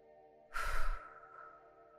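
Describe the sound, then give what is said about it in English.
A single deep, breathy exhale, fairly loud, rushing out in about half a second before trailing off softly into near silence. No talking. “I'm breathing out.”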